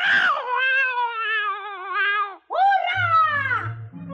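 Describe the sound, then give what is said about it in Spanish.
A cat lets out two loud, drawn-out yowls as it pounces on a mouse and tears it with its claws, the first long and wavering, the second rising then falling, with a low rumbling growl beneath its end. “No lo pensó ni un minuto el gato, y echándose sobre él, lo destrozó con sus uñas, acabando así con el horrible ogro.”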